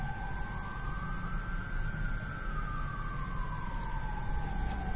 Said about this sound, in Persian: بچه اینجا صدای آژیر میاد، نمیدونم آمبولانس یا آتش نشانیه، ولی دعا کنیم که به خیر بگذره.